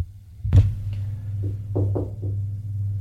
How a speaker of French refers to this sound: On a frappé à la porte.